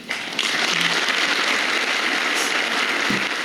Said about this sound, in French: Applaudissons-nous, we are magnificent people.